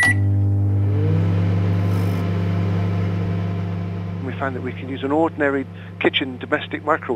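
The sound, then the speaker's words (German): A kitchen microwave oven, used to dry a silicate cream into a nanopowder in about 10 minutes, runs with a steady, droning low hum that continues throughout, and a voice starts talking over it about halfway through. “Wir fanden heraus, dass sich zum Trocknen auch eine Mikrowelle aus der Küche nutzen lässt.”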